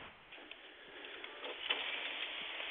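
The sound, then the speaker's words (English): A lot of steady rain patters down in a continuous, even wash of soft hiss dotted with small scattered taps, moderately quiet, with no voices. “A lot of rain now, and I hate to think that 10 miles from here the racetrack is getting this rain”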